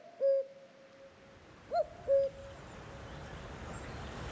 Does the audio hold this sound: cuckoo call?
yes